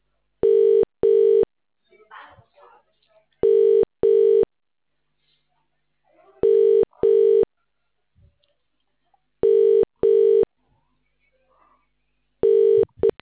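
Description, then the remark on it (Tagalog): An outgoing phone call's ringing tone repeats in steady double pulses, ring-ring then a pause, four times over. Faint, indistinct murmurs and rustles sit in the gaps between rings. “Pick up the phone.”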